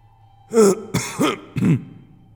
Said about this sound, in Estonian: … astus rahva ette ja köhatas hääle puhtaks.